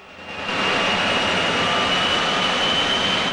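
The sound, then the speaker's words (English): A loud, steady aircraft engine roar from a car fitted with wings, an engine and a dual tail on its roof swells up within the first half second and then holds constant, with a high-pitched whine running through the broad rushing noise. No voices. “Attached to the car's roof were a set of wings, an engine, and a dual tail.”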